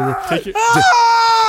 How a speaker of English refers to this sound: Does anybody else want to scream the top of their lungs inside of this new studio? I feel like because it's so... Can I do it? Can I do the first?